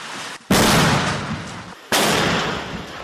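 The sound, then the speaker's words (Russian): Two loud mortar shots fire about a second and a half apart near the village of Ivanovskoye, by the road to Bakhmut, during an assault; each is a sharp boom followed by a long, rumbling echo that fills the space until the next blast. “Выстрел за выстрелом. Минометы не успевают остывать.”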